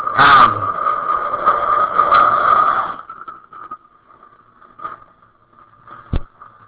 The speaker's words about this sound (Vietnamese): Công nhận ở đây máy bay nó bay dữ thiệt chứ.